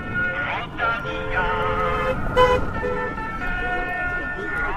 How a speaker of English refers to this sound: If you've ever been to one of the races in Flanders, you'll have recognised that sound. It's the jingle for a watch manufacturer which sponsors many of the races, and shortly before the riders are due to arrive, a car comes past playing it.